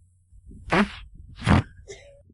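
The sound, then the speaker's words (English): A vaginal fart, or queef: two short, airy, sputtering bursts with a low rumbling edge, followed by a faint, brief squeaky tail over a quiet background hum. “Would you say that came from the coot or the butt? I think it came from the coot.”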